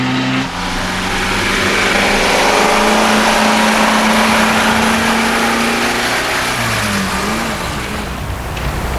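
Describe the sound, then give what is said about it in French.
A scooter engine revs loudly and steadily, its pitch holding and then dipping near the end before settling. There is no talking. “a arrêté son scooter sur le parking de l'hôpital”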